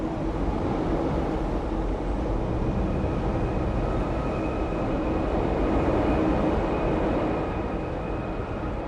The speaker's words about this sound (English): The woman raises the rod. The train moves out of the station.